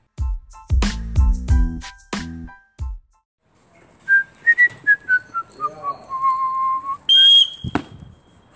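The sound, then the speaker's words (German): A wavering whistled tone slides downward, then a single short, shrill pea whistle blast rings out loud near the end, following some earlier punchy bursts of sound. “warum hast du jetzt gerade mit der Trillerpfeife gepfiffen?”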